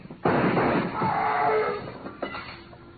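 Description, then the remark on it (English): A loud gunshot fired through a door booms out with a long, rumbling decay, followed about two seconds later by a fainter second bang. No voices are heard. “Fire through the door.”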